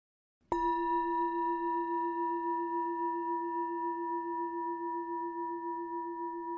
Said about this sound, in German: Und wenn du den Gong hörst, öffnest du deine Augen.